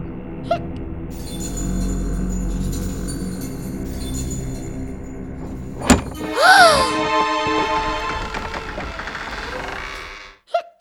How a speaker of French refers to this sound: C'est la porte. Elle s'est refermée toute seule.